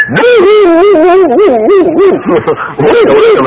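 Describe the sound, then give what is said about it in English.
A man's voice imitates a dog, making a quick run of connected, wavering yelps and barks, loud, for a few seconds without pause. “Just trying it out to see how it sounds for a dog.”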